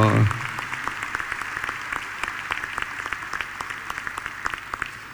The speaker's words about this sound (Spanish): ¡Vamos, Gildo! ¡Vamos, hay que aplaudirlo a Gildo! ¡Un gran compañero! ¡Gracias, Gildo, por todo! ¡Vamos, Gildo!